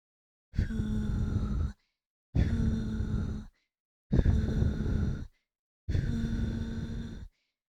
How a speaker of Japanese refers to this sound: さっきより吐息の数が多いから、ピンクがどんどん濃くなっていく。